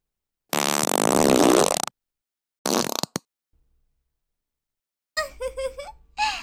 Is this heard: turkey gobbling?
no